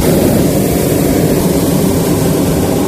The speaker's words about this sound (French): Non, l'effet de vent, non, c'est le brûleur, hein, c'est l'air chaud dans le ballon qui nous remonte.